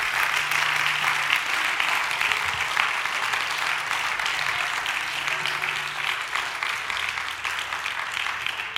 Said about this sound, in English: Praise the Lord. Would you give the Lord a great big hand clap of praise in this place?